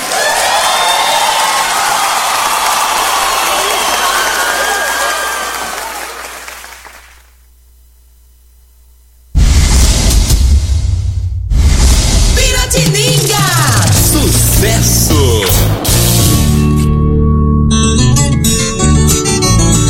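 A crowd claps loudly and steadily with some cheering for about seven seconds, then fades into a brief silence before loud music kicks in.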